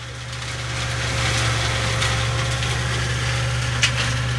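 A Deutsche Bahn tractor with a mulcher (a roller with a mower at its rear) drones steadily as it pulls away beside the railway line opposite Köln-Porz-Wahn station, cutting a swath through grasses and shrubs; engine builds in loudness over the first second, with broad, rough grinding of the mulcher on top, no voices.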